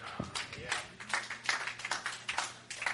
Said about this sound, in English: 10 people in here get that. 10 personas oyeron este mensaje. I counted all 10 of you clapping.